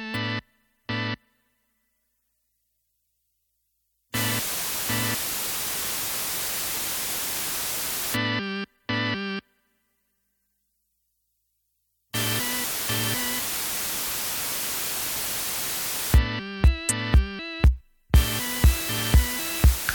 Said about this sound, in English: You will now hear some white noise alternating between out of phase and in phase, beginning with out of phase.